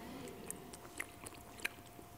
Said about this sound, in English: I'm going to take a sip of water on that.